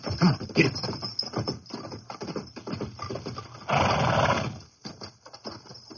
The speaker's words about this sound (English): Dixon dismounted and guided his horse up the rocky slope.